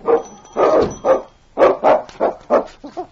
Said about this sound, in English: clawed at the door and barked a protest at being left behind.